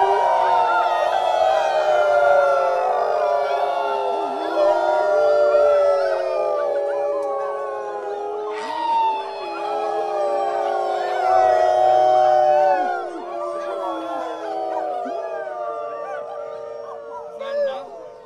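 A pack of wolves howls in chorus, several long wavering voices rising and falling and overlapping, loud, sustained without a break for the whole stretch.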